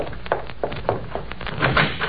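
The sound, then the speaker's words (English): A door being opened, heard as a quick series of clunks and knocks from a latch and wooden frame, moderately loud, with no voices. “Now answer the door.”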